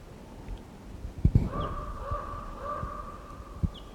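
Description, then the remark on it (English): A wild bird that was shot at and missed gives a drawn-out, raspy call from the trees, with a couple of long harmonic notes, punctuated by a few low thumps and handling knocks. “Now it's about 20 minutes later and he's still here in the trees somewhere. Stop. There's that wild bird.”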